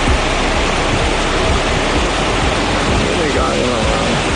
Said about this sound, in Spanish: Así caía el agua en las últimas horas en municipios como Alcoy.